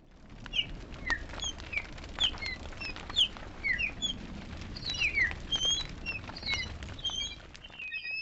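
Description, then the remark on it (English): A dense flurry of fluttering wingbeats and rapid patter fills the scene, with many high chirps and tweets scattered throughout over a low rumbling background, like a large flock taking to the air. “I summoned a flock of enchanted etheric birds to attack old Dewar.”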